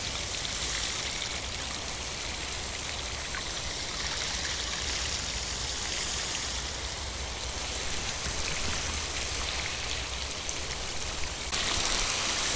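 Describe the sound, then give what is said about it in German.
A steady, continuous splash of water falling from about a meter up, a dense hiss-like patter that holds even for around twelve seconds and grows slightly louder near the end. No voices. “Wasser aus 1 Meter Höhe auf die Höhe und das wäre noch mal aus 40 cm.”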